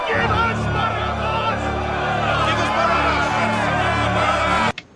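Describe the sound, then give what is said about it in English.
A large crowd shouts its answer to Pilate's Passover offer to set free the King of the Jews, a loud, sustained roar of many overlapping voices, holding steady for several seconds before cutting off abruptly near the end. “They answered him with a shout.”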